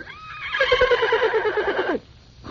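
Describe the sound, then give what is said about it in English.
A horse named Henry neighs once in a loud whinny lasting about a second and a half, its pitch wavering in quick pulses before dropping off abruptly into near silence. “Here's Henry the horse.”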